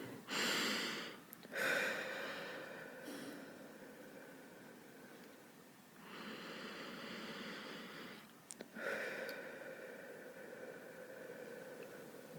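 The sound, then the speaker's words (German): Slow, deep breathing as a voice exercise, with no talking: long airy inhales drawn in through the nose, each followed by a longer, breathy exhale out through the mouth, in a steady unhurried rhythm. “Und zwar, wir atmen erstmal durch die Nase ein und durch den Mund aus.”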